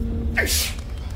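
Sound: sneeze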